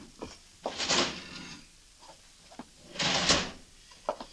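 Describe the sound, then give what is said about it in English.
A left-hand desk drawer slides open with a rough, hissing scrape as mug shots are fetched from it, followed by a few light clicks and rattles, then a second similar scrape as it slides shut. No one speaks. “hand me those mug shots of Charlie, left-hand drawer.”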